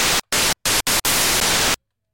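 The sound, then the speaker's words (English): Harsh 8-bit NES noise-channel synth, played on a virtual MIDI keyboard, fires five hissing bursts with hard, abrupt cutoffs: four short blasts, then a longer sustained one before silence. It is loud, with no voices. “The noise. Five more. Virtual MIDI keyboard. Arms. Sounds like this.”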